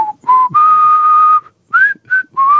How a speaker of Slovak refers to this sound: On zapíska v čokoľvek. Štyria tankisti a pest, tam sa pískalo?